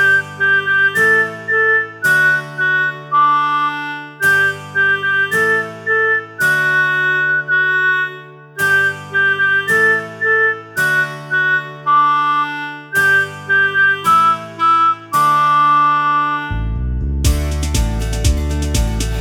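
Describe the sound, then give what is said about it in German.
Someone whistles a bright, steady melody in repeating phrases over a fuller musical backing, loud, before a harsh burst of noise takes over at the end. “Als erstes der erste Pfeifer.”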